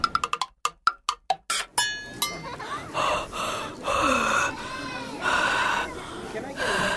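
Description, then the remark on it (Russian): Several short, quick breaths are puffed out one after another onto a palm to check whether the breath is warm, fairly loud, before people start talking over a busy background. “Дышу себе на ладошку.”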